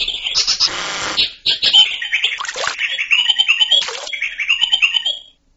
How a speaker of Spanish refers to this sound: En este sorprendente ejemplo podemos oír cómo un ave del paraíso ha incluido en su canto el sonido de un motor y el del agua goteando.